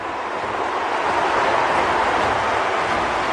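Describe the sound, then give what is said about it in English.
A large stadium crowd at the World Track and Field Championships booing as Justin Gatlin receives his gold medal for the men's 100-meter final, a loud, steady, unbroken roar of many voices that holds at the same level throughout, with no single voice standing out. “And that's booing there because the crowd was not happy.”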